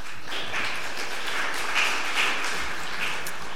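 An audience at a session on CloudStack cloud management software applauds to welcome a speaker, a dense, steady wash of many hands clapping at moderate loudness that holds evenly for a few seconds with no voices over it.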